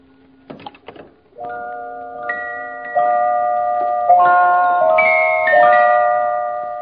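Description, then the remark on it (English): After a few soft clicks, wedding bells begin ringing, each new chime layering over the last so the tones build into a sustained, shimmering blend of pitches that stays steady and fairly loud. “And so, of course, it's wedding bells. They sound very pretty, don't they, my dear?”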